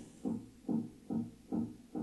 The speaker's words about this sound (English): Why is there someone hammering? I'm in a hotel. It's maintenance.